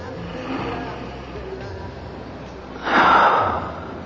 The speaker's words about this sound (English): Now smell it. Just a little. Now pull it away. Just tease yourself a little. Up. And down. And up. Longer sniffs.